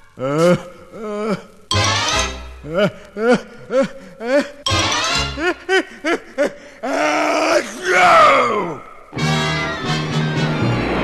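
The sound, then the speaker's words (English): A deep voice groans and wheezes in a run of short, rising and falling pitched gasps, building to a loud, explosive sneeze as the whale Monstro, tickled, sneezes, then a rough rushing noise of a great fountain of water spraying up to the ocean surface. “Monstro sneezed a great fountain of water right up to the surface of the ocean, and Geppetto and Pinocchio with it.”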